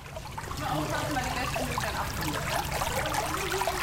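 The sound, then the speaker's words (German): Spring water bubbles and trickles steadily up from springs created by drilling, a continuous babble of flowing liquid with small gurgling fluctuations throughout, fairly soft and even in level. “Nun sprudelt es aus 19 Quellen, die durch Bohrungen entstanden sind.”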